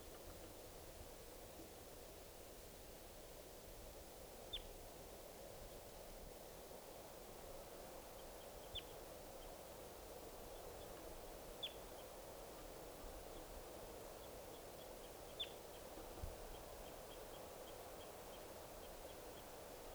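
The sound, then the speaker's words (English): Short, sharp high-pitched flight calls from a wild bird labelled 387 sound every few seconds, four or five brief chips in all, faint over a steady hiss of wind-like background noise. “387 giving flight calls. Chatter by the wild birds.”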